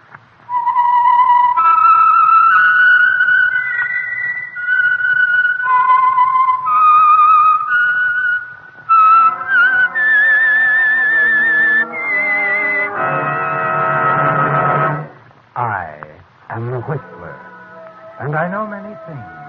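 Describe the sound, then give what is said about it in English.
A clear, loud whistled melody of sustained, gliding notes, the theme signature of an oil company's Sunday evening radio program, runs for several seconds, then gives way to fuller musical tones and a speaking voice. “the signal to listen for is this whistle that identifies the Signal Oil Program, The Whistler”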